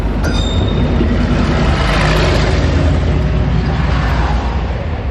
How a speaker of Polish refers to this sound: Najlepiej tak, jak robiono to przed laty. Żuławską koleją dojazdową.